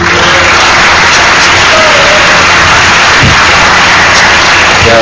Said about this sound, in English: Can you have like a round of applause for him, please?